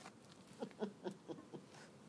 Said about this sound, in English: We're sitting out in the rain. Some part of the garden's raining, some part of the garden.